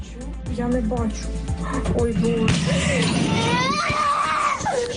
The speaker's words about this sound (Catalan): Un chiquitín rompe a llorar asustado por la explosión que acababa de escuchar al lado de su casa.